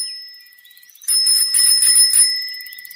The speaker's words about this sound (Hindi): ओह, ये कैसी आवाज़ है? साइकिल की घंटी बजी है।